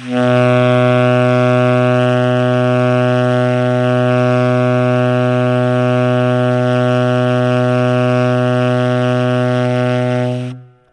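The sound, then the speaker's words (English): A single long, low note held steadily on a wind instrument for about ten seconds as a long-tone practice exercise, rich and buzzy with strong overtones, at an even loudness before stopping cleanly. No one speaks. “After doing a good round of long tones, for say 20 minutes, you should feel very relaxed, very focused, very aware, and quite ready to begin practicing in a constructive, organized, and non-competitive way.”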